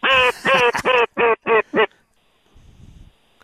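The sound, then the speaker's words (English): A duck quacks loudly, six harsh nasal quacks in a quick, tumbling series, followed by near silence with a faint low rumble. “Oh, there goes one right now.”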